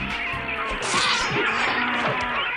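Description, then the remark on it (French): A brief, loud intro jingle for the news segment "Les nouvelles du front", a dense wall of bright, noisy sound with crashing, percussive hits, playing on its own for a couple of seconds with no talking. “on va lancer les nouvelles du front.”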